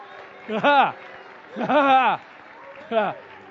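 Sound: audience clapping and cheering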